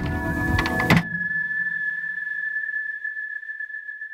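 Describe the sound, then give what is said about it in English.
A door slides and shuts with a firm thud about a second in; afterward everything goes quiet except a faint, steady high-pitched hum that lingers to the end. “We close the door and then it's silent.”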